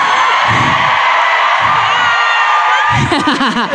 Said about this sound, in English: Can I scream into the mic?